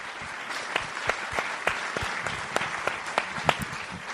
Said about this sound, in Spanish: Bueno, que suba, por favor, el presidente de la Diputación Provincial, Gerardo Álvarez Courel. A ver ese aplauso.